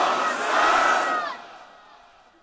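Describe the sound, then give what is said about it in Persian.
A large crowd with hands raised shouts the chant "Ya Hasan" together in one loud, unified burst lasting just over a second, then the roar quickly trails off into a fading murmur. “نه این بلنده بود، دست تو بیار بالا محکم، همه دست بالا بلند بگو یا حسن.”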